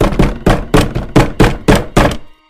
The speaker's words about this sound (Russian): Стук повторился, он был уже более настойчивым.